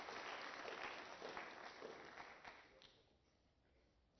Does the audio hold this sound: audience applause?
yes